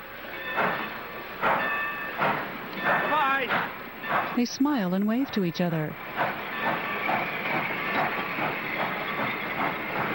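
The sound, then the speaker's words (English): A train rumbles steadily as it pulls away from a station, with a brief burst of squealing tones midway, while a voice speaks over the continuous rolling noise. “She turns and stops at the door as the train pulls away.”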